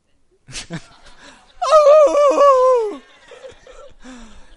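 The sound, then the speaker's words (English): A voice imitates a wolf's howl: after a short breathy onset, a loud, wavering tone holds for over a second, then slides downward and fades into quiet breath. “It's like a wolf sound, like howling.”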